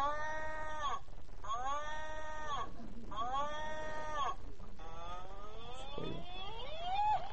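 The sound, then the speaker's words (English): A battery-powered toy plays a man's voice imitating a cow's moo: three drawn-out, bending calls with short pauses, then a longer wavering one, loud over a steady hiss. “And this guy thinks he makes a good cow sound. Okay, so he goes, "Moo, moo."”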